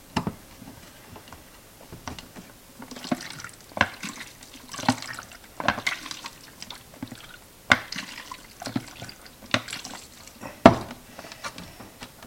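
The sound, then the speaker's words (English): Liquid sloshes inside a closed film developing tank as it is inverted and turned back several times while developing film, at four inversions per minute, each swish fairly loud, punctuated by sharp plastic clicks, with no voices. “4 inversions per minute it calls for. Get that lid on good and tight. We don't lose any of it.”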